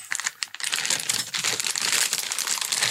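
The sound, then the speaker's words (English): A plastic bag with bubble wrap and a present inside crinkles and rustles, a continuous dense crackling with sharp little snaps throughout, no voices present. “There's a plastic bag. It's got a little bit of bubble wrap in it.”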